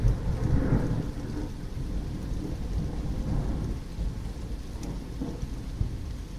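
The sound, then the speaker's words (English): Deep rolling thunder from a storm with a massive flash of lightning rumbles continuously beneath steady, heavy rain, the low booms swelling and fading in waves over several seconds, loud, with no voices. “Okay, massive piece of lightning there. Much bigger than the one.”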